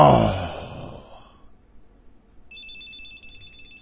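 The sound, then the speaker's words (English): A cell phone alarm chimes with a thin, steady electronic tone that starts partway through, following a fading burst of noise, fairly clear with no talking. “Well, my cell phone alarm went off there.”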